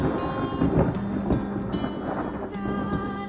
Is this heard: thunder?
yes